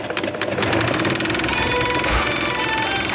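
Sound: sewing machine running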